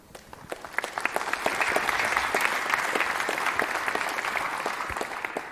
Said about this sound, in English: Warm applause for them.